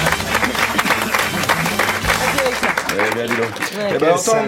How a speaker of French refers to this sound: À entendre vos applaudissements forcés, je constate que personne n'attendait mon retour.